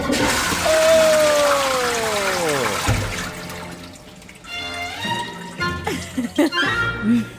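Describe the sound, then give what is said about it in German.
A toilet flushes with a loud rush and swirl of water that drains away after about three seconds, leaving softer gurgling and trickling, with what may be faint voices toward the end. “Oh, shit, da ist Wasser.”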